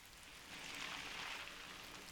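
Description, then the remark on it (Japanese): Steady rain falling, a soft continuous hiss of drops that swells slightly midway, with no voices present. “あー、ほら雨だし、せっかくの男女二人だし。”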